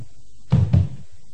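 Two heavy, low thuds land in quick succession as doors are closed one after the other, loud against a quiet background with no one talking.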